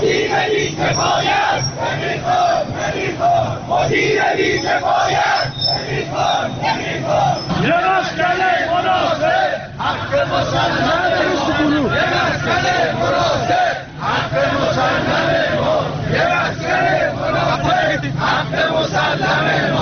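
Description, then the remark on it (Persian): A crowd of protesters at a rally, demanding the dismissal of the managing director of the Tehran and suburbs bus company and completion of a housing project, chants slogans in unison, loud and sustained, with rhythmic shouted phrases rising and falling over a dense wash of many voices for the whole stretch. “به صدای شعار تجمع کنندگان که از روی یکی از شنوندگان در اختیار ما قرار داده شده است گوش می‌کنیم.”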